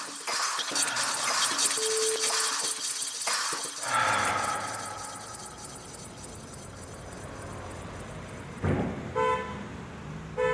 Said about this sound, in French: En pleine ville, entouré du béton et du vacarme, l'enfer du trafic parisien me rattrape, me submerge. J'étouffe dans cet univers clos et nocif où tous les sens sont agressés.